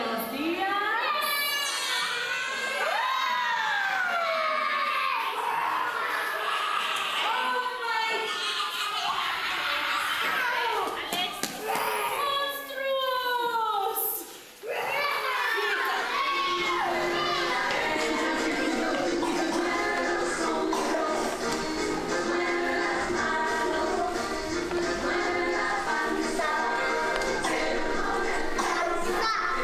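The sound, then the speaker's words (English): A crowd of children in a classroom shouting and calling out over one another, high voices rising and falling in excited bursts, with a steady rustle and shuffle of chairs underneath, loud throughout. “You can hear the chairs rustling and the kids are like, ah.”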